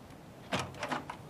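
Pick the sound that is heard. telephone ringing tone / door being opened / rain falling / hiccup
door being opened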